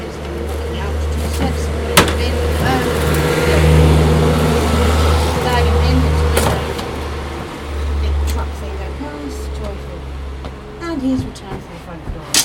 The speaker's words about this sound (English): You hear that noise? That big noise? That is a. Oh, it stinks as well. Big forklift. Yeah, forklift. An industrial forklift. And it goes on all day long outside to the front of the house. To and fro.